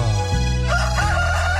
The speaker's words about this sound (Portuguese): 6:34 da manhã. Canta galo.